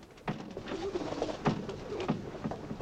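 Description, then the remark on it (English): Several pigeons coo softly and continuously inside a small white building with vertical bars along its upper half as a man tends them, their low burbling calls overlapping, with a few sharp thumps and rustles breaking in now and then. “Inside, Stoker's tending to his pigeons.”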